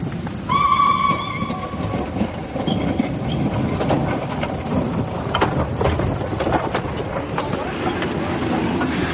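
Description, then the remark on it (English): A train rumbles along the rails with a steady, dense roar and clatter, opening with a brief high whistle-like tone before the continuous rolling noise takes over. “When they got off the train at Charing Cross, they really felt their adventure had ended.”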